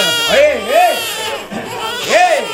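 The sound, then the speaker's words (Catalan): A newborn baby cries in loud, wailing bursts, each rising and falling in pitch, with a short catch between cries, continuous across the moment. “Otro niño!”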